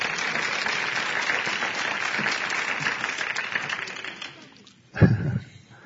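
A crowd applauds steadily for several seconds, a dense wash of many hands clapping that fades out, followed by a brief louder burst of low sound near the end.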